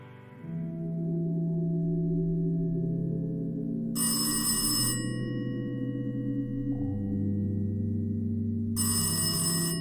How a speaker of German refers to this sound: Ich muss keine 2 Stunden geschlafen haben, als mich das Telefon auf dem Nachttischschränkchen weckt. Orientierungslos drehe ich mich in Richtung des Klingelns und greife im Dunkeln umher, bis ich schließlich den Hörer in der Hand halte.